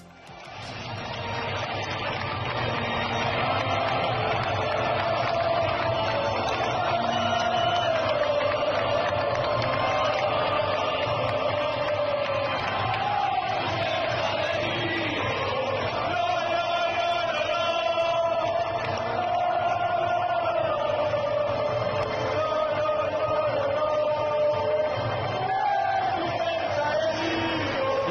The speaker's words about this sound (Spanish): Este sonido ambiente y que no se te pongan los pelos como escarpias. Y eso que este sonido que acabáis de escuchar, los gritos de una afición enfervorizada con su equipo, con su Celta, que incluso eran capaces de opacar la sintonía de la UEFA Europa